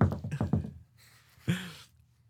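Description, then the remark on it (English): A quick, frantic burst of knocks on a door, four or five hits in rapid succession, followed after a short pause by one more heavy thump, fairly muffled and moderately quiet. “So this guy leaves around 3, and I'm about to lay down, and I hear like a fucking frantic knock on the door. Just like super quick.”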